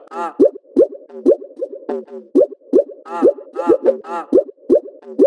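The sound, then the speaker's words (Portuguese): Water splashing in a steady series of bubbly plops, about two per second, each a short gurgling burst followed by a sharp drop. Moderately loud, with no voices. “Olha o barulho da água.”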